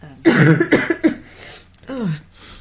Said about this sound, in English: And I think you held up, considering you've still got a bit of a cough